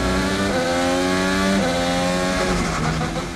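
A loud race car engine screams steadily, its pitch stepping abruptly between gears twice before easing off slightly, with no talking over it.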